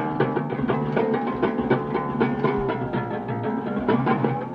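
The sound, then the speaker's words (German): A mechanical intonarumori gurgler noise instrument, a box fitted with special membranes, drones steadily with a rough, buzzing tone, punctuated by regular rattling clicks like a slow train clattering over rails, loud throughout. “Könnte ein langsamer Zug sein, der über die Schienen rattert.”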